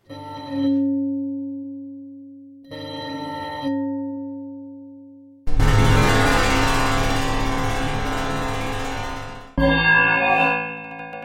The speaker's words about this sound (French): Voilà, des rebondissements, des vibrations, des frottements, de l'écho. C'était trois petites pastilles sonores réalisées grâce à Modalis.